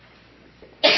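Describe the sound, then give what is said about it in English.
A single sudden, loud sneeze bursts out near the end after a quiet moment of faint room noise, sharp and breathy, and is cut off abruptly. “Bless you. Bless you.”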